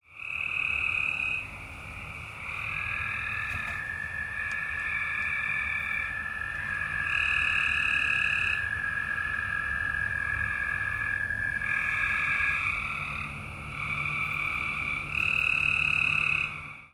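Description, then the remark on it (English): A dense chorus of three frog species calling at once at a stormwater bioretention pond on a May evening, recorded on a phone: steady high trills, a long sustained drone, and pulsing croaks overlapping continuously, fairly loud, with no voices. “And she named three species of frogs that she could hear on my phone recording.”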